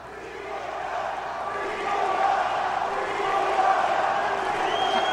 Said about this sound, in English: How does that cheer make you feel? It's amazing. It's like I'm home always where I go.